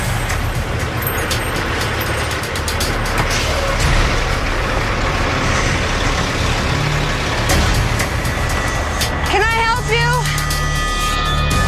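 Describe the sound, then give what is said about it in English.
A heavy truck engine rumbles steadily and loudly on the road, with continuous low road noise throughout and a brief wavering high tone near the end. “Up ahead, another truck's blocking the road.”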